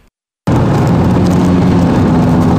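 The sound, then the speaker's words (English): After a brief moment of silence, a loud, steady bus engine roar kicks in abruptly and holds constant, a deep rumbling drone as the bus is under way rushing a very ill man to hospital, with no voices. “Drive this bus like your life, now.”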